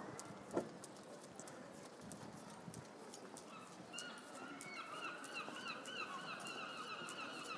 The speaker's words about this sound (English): No shortage of seagulls, anyway. However, I've been hearing those all day, so that doesn't necessarily mean that we're anywhere near the Severn or the docks.